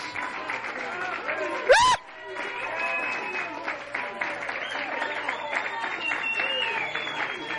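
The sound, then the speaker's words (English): An audience claps steadily in praise of the Lord amid loud cheering and shouting voices, with a sharp rising whistle cutting through near the start before the dense clapping and calls carry on. “So I dare you today to get up on your feet and give the Lord a hearty hand clap and a hallelujah praise.”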